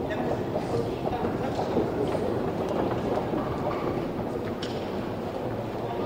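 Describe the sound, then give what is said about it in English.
Busy subway platform ambience dominated by a steady, loud train rumble with faint rattling and clanking, and indistinct murmuring voices blended underneath throughout. “Okay, we're on the actual subway platform now.”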